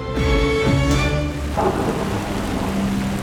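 Steady, heavy rain pours down while a deep roll of thunder rumbles underneath, the storm sounding dense and continuous with no voices.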